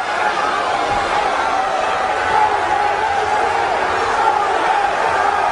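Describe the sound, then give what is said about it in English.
A large arena crowd at the Boston Garden cheers on the hometown favorite during a strength contest, in a steady, continuous roar that stays loud and dense throughout, a wash of many voices with no single one standing out. “Certainly has this Boston Garden crowd behind him. They're cheering on the hometown favorite.”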